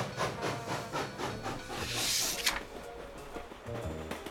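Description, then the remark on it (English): The last train back down a mountain pulling away, with a steady rhythmic chugging, a loud burst of steam hissing midway, and low rumbling machinery underneath. No one speaks. “They ran to catch the train back down the mountain.”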